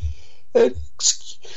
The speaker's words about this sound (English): Pardon me. Bless you. Gosh. Gesundheit.